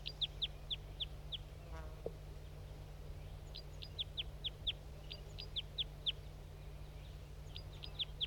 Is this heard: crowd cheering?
no